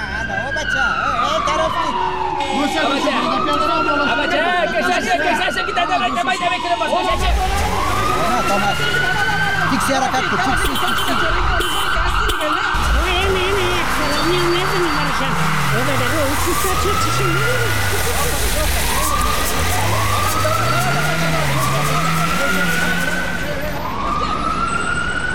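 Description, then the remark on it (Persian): A convoy of cars with tinted windows and no license plates rolls past on the road toward an intersection with sirens wailing, several rising-and-falling siren sweeps overlapping over steady loud traffic rumble, with voices talking in the background throughout. “اونه چند تا موتر شیشسی های بینم بر پلیت از جاده رفت طرف ما میان و میخواین که طرف چارایی تیر شوند.”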